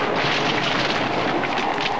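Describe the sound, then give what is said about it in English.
A loud, sustained crash of thunder in a storm high in the mountains rolls on without a break, a dense roaring rumble that fills the whole stretch with no voices present. “Later, high in the mountains again, they're caught in a storm.”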